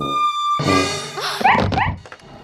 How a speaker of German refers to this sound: Durch das Schaufenster guckt plötzlich der Hund der Nachbarin herein und schlägt Alarm.